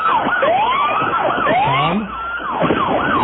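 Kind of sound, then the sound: vehicle, police car siren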